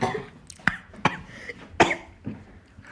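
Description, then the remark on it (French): Several sharp coughs from people who have just tasted vinegar, coming in quick irregular bursts over a few seconds with a bit of throat clearing between them, fairly loud. “Pourquoi vous toussez? Quand on avale, ça agresse la gorge.”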